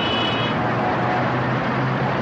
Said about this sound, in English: Not perfect silence. In Saudi Arabia's capital, Riyadh, there is also the din of traffic, plying its way around a ribbon of highways that would not be out of place in a new conurbation in the American Sun Belt.